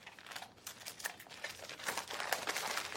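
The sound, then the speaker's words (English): Paper rustles and crinkles in quick, irregular bursts for a few seconds, fairly quiet, as the wrapping paper of a flat, rectangular present is torn and pulled open, revealing a framed photo. No one speaks. “pulls open the wrapping paper, revealing a framed photo.”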